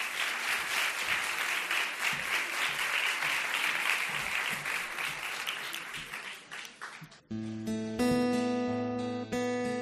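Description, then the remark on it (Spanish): An audience applauds a band steadily and loudly for about seven seconds, a dense crackle of many hands clapping, before the clapping cuts off and bright, sustained music begins as the band's second song starts. “Pues allá tenéis vuestro sitio y el aplauso de vuestro público.”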